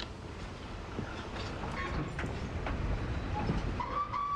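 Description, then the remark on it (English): A train heading to Glen Falls rumbles steadily along the tracks with a constant low roar, scattered clacks and rattles, and a brief metallic squeal near the end. “We have to get off the train now.”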